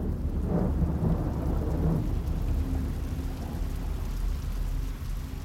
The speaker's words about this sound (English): Sunday, June the 18th, 1815. The rain is relentless till the early hours. First light reveals a mud bath.